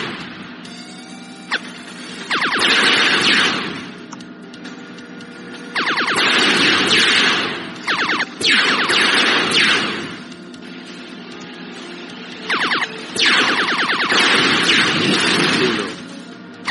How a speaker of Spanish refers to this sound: Ya se ven más y más naves. Me muevo con las flechas. Oigo el radar, encima del radar, y disparo con espacio.